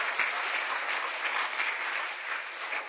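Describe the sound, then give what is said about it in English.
Steady applause from an audience for a reverend fills the whole stretch, many hands clapping in a dense, continuous patter at a fairly even level, with no voices standing out. “Let's give a big round of applause to Reverend Yu.”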